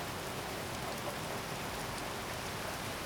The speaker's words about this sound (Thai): ฝนตกหนักขนาดนี้ผ้าที่ตากไว้คงเปียกหมดแล้ว